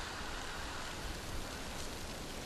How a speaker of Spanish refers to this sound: Os dejamos con el sonido de las olas. Ay, es que me encanta.